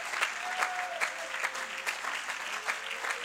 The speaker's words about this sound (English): Clap your hands to the King of Kings.